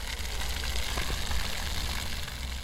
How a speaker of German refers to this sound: Zum neuen Einkaufszentrum sind es nur ein paar Schritte. Im roten Pflaster ein flaches Brunnenfeld. Wasser plätschert, Kinder laufen hindurch.